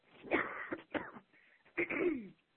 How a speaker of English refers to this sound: I'm so sorry. There's that cough that I was warning you guys all about.